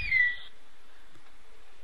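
A brief, shrill navy whistle sounds once at the start, a steady high tone lasting under half a second, then fades into quiet background hiss with no talking.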